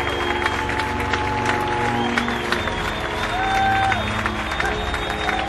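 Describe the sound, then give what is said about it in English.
Steady, dense applause at a band's concert as the band, with their touring string quartet, takes a bow and applauds the audience. A continuous patter of many hands clapping, with crowd noise and a few rising whistle-like tones mixed in. “And the band applauds for the audience.”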